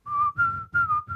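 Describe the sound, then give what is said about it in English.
A person whistles on an inhaled breath, a thin wavering, tone-deaf tone in three quick, airy bursts with a rough breathy rasp underneath, alone with no talking. “That's the kind of inhaled whistle.”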